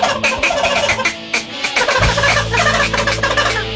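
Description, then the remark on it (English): Wild turkeys gobble loudly in rapid, rattling bursts that overlap one another, with no talking; about halfway through, a steady low rumble joins underneath the calls. “Those turkeys are a goblin out there.”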